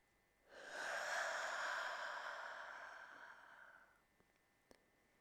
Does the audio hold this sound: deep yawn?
yes